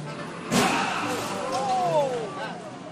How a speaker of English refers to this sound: Yikes, was I glad to be on the High Line, away from the car crash in the street below.